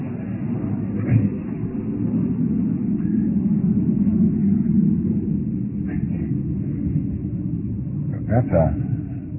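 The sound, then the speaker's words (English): One of the new jet fighters, out on a practice flight, roars overhead in a steady, low rumbling drone that swells slightly through the middle and holds for the whole stretch, with a few faint muffled sounds on top. “That's one of these new jet fighters they're practicing.”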